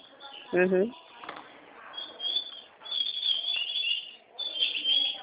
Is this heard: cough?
no